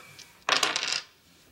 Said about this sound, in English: Now throw the dice.